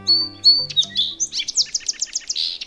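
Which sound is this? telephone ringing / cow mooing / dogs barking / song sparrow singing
song sparrow singing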